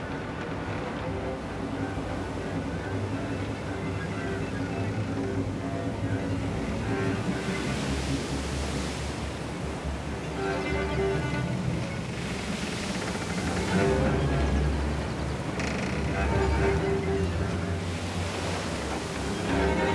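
Rough sea waves surge and crash continuously with gusting wind roaring over them, a dense, steady wash of noise that swells louder in the later part.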